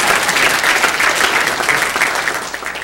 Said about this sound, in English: And so that's awesome. You guys can applaud for that.